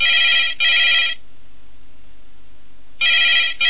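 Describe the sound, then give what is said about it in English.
A telephone rings loudly in two bursts of a bright, trilling electronic bell, a long pause between them, then a third burst begins; no one speaks. It is a phone-a-friend lifeline call on Who Wants to Be a Millionaire. “I'll have to use phone a friend.”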